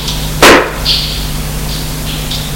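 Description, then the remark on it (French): A single heavy thud of a fist striking a door from a cellar to make it open, loud and sharp, followed by a steady low hum and faint high whining tones, with another blow just starting at the end. “De la cave, prenant de grands poings à la porte pour qu'elle s'ouvre.”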